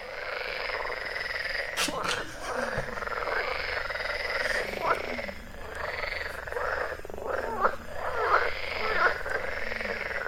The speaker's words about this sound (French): En même temps, on ne les écoute jamais, les grenouilles. Hein. C'est pas plus mal de leur donner la parole une fois de temps en temps.